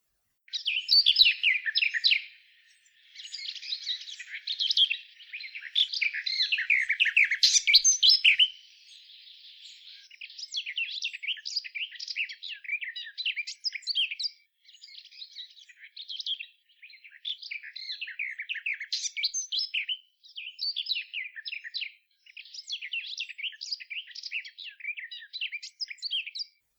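A male warbler sings alone from a second nest it built, in a long run of rapid, high, scratchy phrases, each lasting a few seconds with brief pauses between, steady in loudness.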